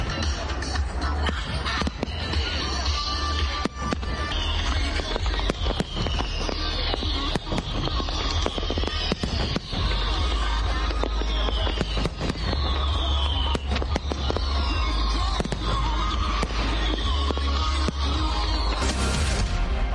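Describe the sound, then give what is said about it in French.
A large fireworks display on the National Mall in Washington, DC, starting at 9 pm and lasting about 17 minutes, bursts continuously, with rapid booming explosions and crackles over a steady roar of crowd noise, some whistling streaks rising and falling through the sky. “Toujours à Washington DC, à partir de 21h et pendant environ 17 minutes, depuis le National Mall, les Américains ont eu droit à des grands feux d'artifice.”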